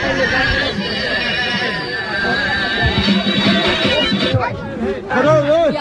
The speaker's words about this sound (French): Oh la foule!